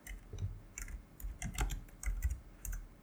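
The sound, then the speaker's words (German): Rapid computer keyboard typing with sharp, irregular key clicks in short bursts, moderately loud, with no voices over it, as someone types to look up an actor's name. “Jetzt brauche ich aber hier den Namen des Schauspielers. Klick.”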